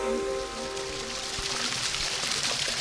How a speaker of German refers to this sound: Das Plätschern da ist ein Geräusch